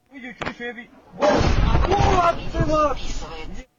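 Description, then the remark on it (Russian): A voice speaks briefly, then a loud explosion from a night shelling of Ukraine, a Russian cruise missile strike, erupts into a sustained, rumbling roar of blast noise lasting over two seconds, with raised voices audible through it. “Очередной ночной обстрел Украины, скажете вы.”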